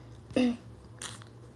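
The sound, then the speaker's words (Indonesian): A bottle of Iliad perfume by Saf & Co gives a sharp pump click, then a short, soft burst of airy spray hiss about half a second later, with no talking. “Kita semprot guys.”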